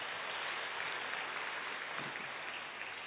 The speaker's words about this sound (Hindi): हम सर का जोरदार तालियों से धन्यवाद करेंगे। और ये विश्वास दिलाना चाहेंगे कि आपने जो मन की गुह्य बातें बताई है उनको अपने जीवन में धारण करेंगे, अपने परिवार, अपने समाज और अपने राष्ट्र के लिए प्रयोग करेंगे। जोरदार तालियां बजाएं।